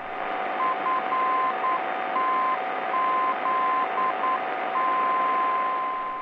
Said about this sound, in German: Die Barke in der Nähe des Heeresflugplatzes Fritzlar auf der Frequenz 468 kHz sendet im Morsecode die Kennung FTZ.